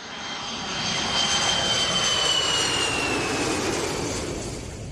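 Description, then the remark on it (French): A jet airplane roars past, its broad engine rumble swelling to a peak midway and then easing off, with a high whining tone sliding across the top of the noise. “Et moi, pour arriver sur cette île, j'avais pris 3 avions différents.”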